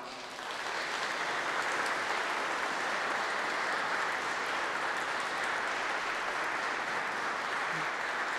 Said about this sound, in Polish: Wielkie brawa.